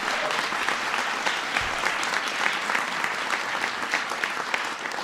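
A crowd applauds steadily, a dense wash of many hands clapping at an even, fairly loud level that holds for several seconds without pause.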